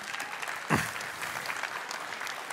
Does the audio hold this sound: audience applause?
yes